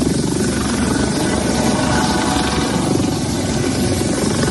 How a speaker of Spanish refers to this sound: Fue en ese momento cuando las personas que ahí se encontraban trataron de meterse en la embarcación para robar la droga, lo que obligó al helicóptero a volar bajo para ahuyentar a estos individuos. Así se escuchaba la aeronave por encima de la gente.